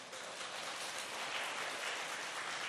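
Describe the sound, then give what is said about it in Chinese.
Steady applause from an audience after a sermon fills the whole stretch, a dense, continuous patter of many hands clapping at moderate loudness with no voices standing out. “这是感恩节的掌声吗？”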